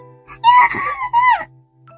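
A girl lets out a shrill, high-pitched scream in two loud, wavering bursts, each lasting under half a second, over a faint steady low hum.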